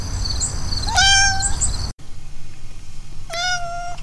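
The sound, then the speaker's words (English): A cat meows twice, two drawn-out, tonal cries about two seconds apart, fairly loud over a low background rumble. “You gonna be Radio Kitty?”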